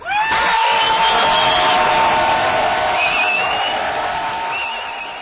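A large crowd of protesters outside the Israeli and Turkish consulates during rush hour yells and screams at full volume for a minute, a dense sustained roar of many voices with shrill cries on top, tapering slightly toward the end.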